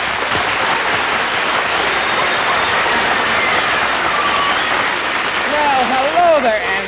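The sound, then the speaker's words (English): A dense, steady wash of radio show audience applause as master of ceremonies Art Linkletter is introduced fills the whole stretch at an even loudness, and a voice starts speaking over the clapping near the end. “Thank you for the generous applause.”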